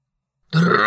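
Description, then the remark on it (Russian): A deep, rough kargyraa-style throat-singing growl pronouncing the Russian word for "tractor", combining muscle tension with a snore, starts abruptly after a brief silence and holds steady and loud, a gravelly low drone with rich buzzing overtones. “Соедините напряжение мышц с храпом и произнесите слово «трактор» на каргара.”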